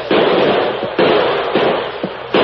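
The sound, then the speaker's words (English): A volley of gunfire as Fraser and his men open fire on their cabin hideout: loud, sharp shots crack out at irregular intervals, four main bursts with a dense, rattling roar of noise filling the gaps between them. No voices are heard. “Fraser gave the order to open fire.”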